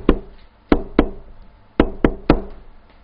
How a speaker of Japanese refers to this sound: 見よ、私は戸の外に立って、あなたの心の扉の外に立って叩いているよ。聞こえるかい、私のこのノックの音が。